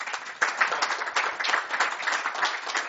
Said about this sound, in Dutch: Nou, dan hoort hier een applaus bij.